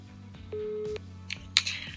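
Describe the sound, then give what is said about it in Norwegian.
A short, steady telephone dialing tone sounds for about half a second over a soft musical bed as a phone call is placed, followed by a few faint clicks and crackles. “ring Celine for å høre om hun har blitt et sommermenneske I sommer da”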